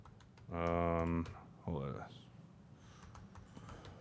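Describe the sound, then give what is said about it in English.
Faint, irregular keyboard clicks of someone typing a tweet, partly masked by a loud sustained hummed tone and a short voiced sound, with the soft typing continuing afterward. “Can you co-host of one of the most popular podcasts in Packer fandom not carry the day for 5 seconds while I tweet?”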